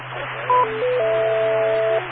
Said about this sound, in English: Repeater, timeout. I'm listening to my... Timeout, cancel.